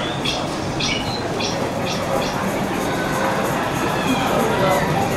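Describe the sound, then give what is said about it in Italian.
A steady, dense murmur of many people chattering at an exhibition, no single voice standing out, covering faint high chirps of little birds repeating during the first couple of seconds. “Vabbè, sono coperti purtroppo dal chiacchiericcio della gente.”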